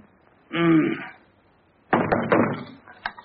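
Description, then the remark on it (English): A short voiced sound, then a quick cluster of fairly loud knocks on a door, followed by one or two sharper raps. “Somebody knocking on the phone.”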